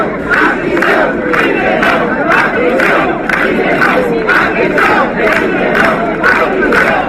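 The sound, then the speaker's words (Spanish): A protest crowd of almost 500 people at a rally in Santander against a possible amnesty for the leaders of the procés chants "Puigdemont a prisión" in unison, loud and steady, with sharp rhythmic accents landing about twice a second over a continuous roar of voices. “Puigdemont a prisión era el grito que se escuchaba entre estos casi 500 asistentes a esta concentración, que se repitió también en otros lugares de España con ese mismo objetivo.”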